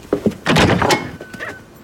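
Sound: door opening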